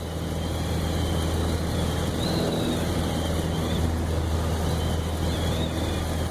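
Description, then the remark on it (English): A small chartered propeller plane's engine drones steadily in flight near Anchorage, Alaska, in November 2014, a loud, constant low hum with rushing wind noise, with no talking. “In November 2014, curious to see the pass for myself, I flew to Anchorage and chartered a small plane.”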